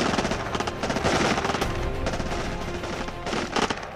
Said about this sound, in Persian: اونقدری طول نکشید که آتش عراقی ها دوباره شروع شد، اما این دفعه شلیک های اونا بی پاسخ نبود. چند تا از رفقای آقا مصطفی که رفته بودن سنگرهای بالای تپه جواب آتیش اونا رو دادن